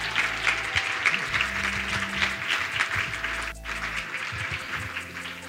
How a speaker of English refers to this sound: So, ladies and gentlemen, help me welcome up with a big round of applause,